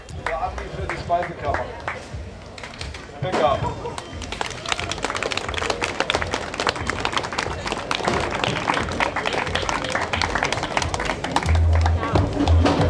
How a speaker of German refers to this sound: Außerdem hält er eine kurze Rede und die Menschen reagieren mit Applaus für die Speisekammer.